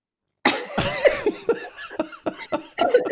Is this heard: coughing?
yes